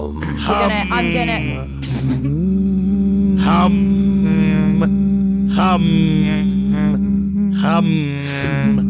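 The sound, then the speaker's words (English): Several voices hold a steady, low group hum for the full stretch, fairly loud, with brief bursts of other vocal noises breaking in every couple of seconds. “So I just need everyone to sort to hum a little bit.”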